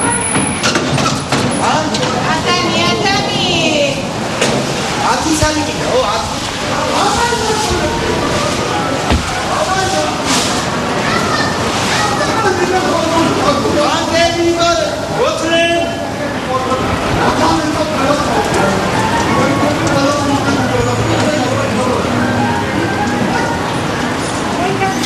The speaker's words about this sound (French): Qu'est-ce qu'on entend là? Beaucoup de choses en bruit de fond. On entend ce que j'entends toute la journée. On est chez vous là, presque? On est chez moi. Cour? On est dans ma cour. C'est ma cour, ce qu'on appelle une cour italienne.